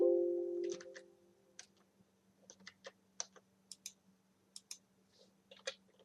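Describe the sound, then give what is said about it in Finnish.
Irregular keyboard key clicks, a dozen or so sharp taps at uneven intervals, fairly quiet over a low steady hum, after a brief tonal beep at the start. “Eli nyt tämmöisessä, mä ihmettelen mun näppäimistö lakkas toimimasta.”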